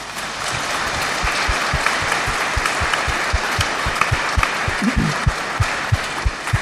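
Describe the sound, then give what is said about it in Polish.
A crowd applauds loudly and steadily for several seconds for the young people going to World Youth Day, a dense wash of clapping with a regular, rhythmic low thump pulsing underneath, roughly three beats per second. No one speaks. “I młodzi, dla tych młodych i dla tych, których nie widzimy, a którzy pojadą na Światowe Dni Młodzieży i dla tych, którzy jeszcze nie wiedzą, że pojadą na Światowe Dni Młodzieży, wielkie brawa!”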